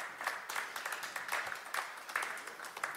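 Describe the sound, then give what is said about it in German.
Applause from a live audience at a stage event in Cologne as a guest is welcomed, many hands clapping in a dense, steady patter at moderate volume with no voices over it. “Das ist ein Live-Podcast. Sie hören, dass Publikum da ist.”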